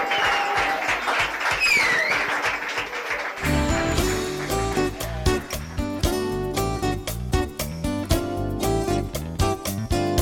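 An audience claps in a dense, steady burst of applause for about three seconds, then loud rhythmic music cuts in and takes over for the rest.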